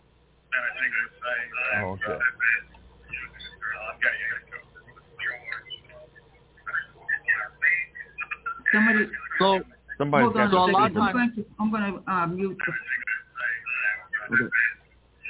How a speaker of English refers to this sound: So can somebody turn the radio down in the background and just listen on the phone? That's why this echo is happening right now.